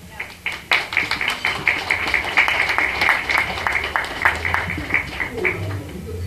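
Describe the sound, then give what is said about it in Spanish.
An audience applauds to welcome the next speaker at an event, a steady patter of many hands clapping at once that carries on for several seconds at a moderate, even level before tapering slightly at the end. “Le brindamos un aplauso.”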